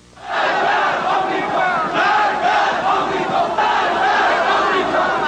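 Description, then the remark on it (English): A large crowd of Iranian protesters rising against the Shah in 1979 shouts in unison "Death to the Shah" and "Death to the American Satan", a dense, continuous roar of many voices chanting together with rhythmic surges, loud and sustained throughout after a brief quiet start. “Death to the Shah, they shouted. Death to the American Satan.”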